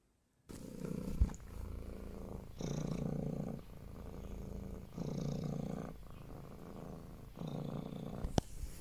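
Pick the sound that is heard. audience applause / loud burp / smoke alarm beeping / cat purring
cat purring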